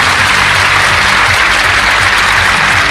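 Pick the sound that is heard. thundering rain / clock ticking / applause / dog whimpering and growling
applause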